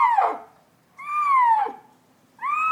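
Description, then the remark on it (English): A blind leopard named Basu, kept in a cage, gives three drawn-out, descending meows, each a harmonic-rich tonal cry about half a second to a second long, separated by short pauses. The calls are fairly loud and no one talks. “The meow is actually a little intimidating, but Basu is a total sweetheart.”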